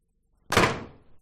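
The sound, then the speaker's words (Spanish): A single door slams shut with a sharp, loud bang that rings out briefly and decays over about half a second, with no voices. “A ver si eres capaz de reconocer, por ejemplo, la nota del horno, las campanas de la iglesia o este portazo.”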